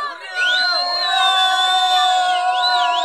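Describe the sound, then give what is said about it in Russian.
Children cheer and shout with joy on being told they can go swimming again now the jellyfish have left the shore, a loud, steady burst of high-pitched overlapping yells with rising and falling whoops that continues for about three seconds. “Мы весело завопили, и больше всех обрадовался малыш.”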